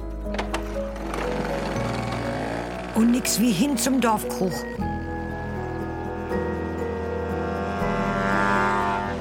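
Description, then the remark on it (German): A small moped engine drones steadily as someone gets on it to ride off, its buzzing pitch shifting as it revs, while a man briefly speaks over it partway through. “Nix wie rauf auf die Mofa.”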